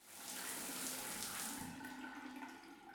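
shower water running

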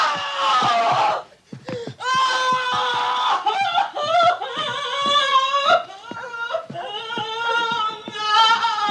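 scream

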